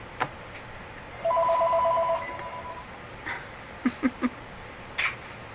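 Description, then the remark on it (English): A telephone rings once with a rapid electronic trill lasting about a second, clear, followed by a few soft clicks and knocks amid quiet. “Take the phone off and just leave it off right now.”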